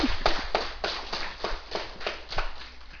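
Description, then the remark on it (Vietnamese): An audience at a retreat applauds the kitchen team, clapping in a steady, rhythmic pattern, the claps landing together about three times a second for a few seconds at moderate loudness, with no talking over it. “Xin đại chúng vỗ cho ban tái soạn một tràng pháo tay nha.”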